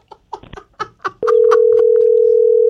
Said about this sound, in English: this might be the phone is being dialed right now by Dull Spice.